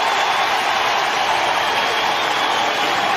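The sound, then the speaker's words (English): A large baseball stadium crowd at a Reds game against Milwaukee roars steadily as Bell leaves to an ovation after arguing with the umpires, a dense wash of cheering and clapping that holds at a constant loudness throughout, with no distinct voices standing out. “And this crowd... this is a smart baseball town. They know the zone.”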